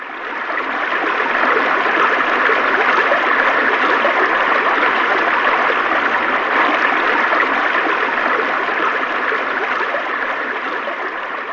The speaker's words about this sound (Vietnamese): Chiếc thuyền vượt khỏi cửa đá và bay vào giữa dòng nước xiết.